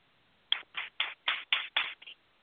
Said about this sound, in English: That's right. I'm clapping too.